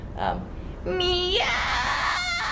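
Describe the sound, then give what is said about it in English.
A person demonstrates the fry scream technique, voicing a raspy, screeching cry that imitates a cat, starting as a brief rising wail and breaking into a harsh, gritty scream held for over a second, loud. “When it comes to fry screams, which is another scream technique, so cackling or screeching like a cat is an example that you can use.”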